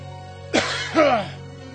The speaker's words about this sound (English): You're not supposed to be coughing anymore. That's supposed to fix you.